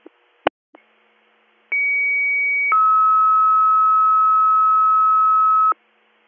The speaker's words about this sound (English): Department 20, disregard your tones.